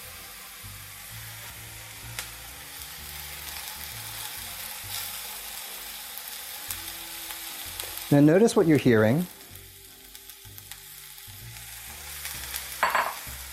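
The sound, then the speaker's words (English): Mushrooms sizzle steadily in hot oil in a pan, a soft, even crackle with a louder burst of spattering partway through, and a voice speaks briefly over it. “You're hearing a nice sort of mellow sizzle.”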